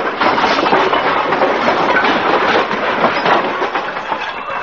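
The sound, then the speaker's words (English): A long, loud cascade of clattering and banging as the contents of an overstuffed closet tumble out and crash down when Fibber opens the closet door, a dense, continuous rattle that keeps going for several seconds with no voices. “When Fibber runs to open that closet door, look out!”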